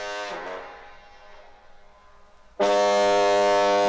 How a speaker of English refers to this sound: That foghorn's such a blessing. So many boats used to smash up on the rocks in the fog because they couldn't see the lighthouse light.